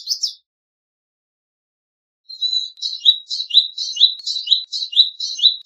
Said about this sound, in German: Ja, das ist die Stimme des Palestine Sunbird, locker über die Mauer fliegend hin und her, sich gar nicht um das menschliche Gerangel down there kümmert und erst recht nicht, ob um ihn herum Arabisch oder Hebräisch gesprochen wird.